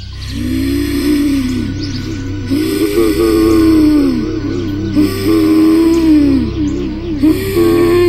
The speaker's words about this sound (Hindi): पर तभी जवाब में मुझे किसी के गुर्राने की आवाज सुनाई दी, अजीब गुर्राने की आवाज।